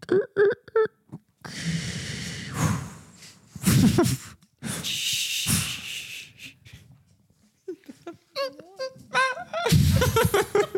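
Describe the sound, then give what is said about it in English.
A person vocally imitates a squealing bird with a series of loud, raspy squawks and breathy honks, broken by short pauses and ending in higher, wavering squeals. “I'd be like, okay, there's a bird squealing.”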